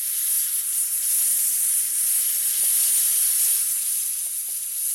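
A powerful machine fan blasts salt water mist down an aircraft runway in a marine cloud brightening research test, a loud, steady hiss that holds unbroken for the whole stretch, bright with a faint low rumble beneath.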